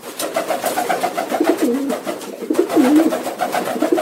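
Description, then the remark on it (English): A pigeon coos repeatedly in low, throaty rolling calls, fairly loud, with two more pronounced warbling coos standing out against a busy background of faint clatter. “Our pigeon friend had been watching and listening. He screeched back at them.”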